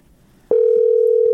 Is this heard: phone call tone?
yes